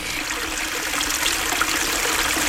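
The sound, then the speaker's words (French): A babbling stream flows steadily, its bright, continuous trickle and splash filling the scene without pause. No voices are present. “Comme le coq laissa les grenouilles et les tortues aller leur chemin, ils virent cinq poissons qui nageait dans un ruisseau.”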